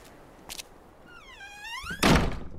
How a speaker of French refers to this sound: « Entre !» dit-il alors en ouvrant la porte.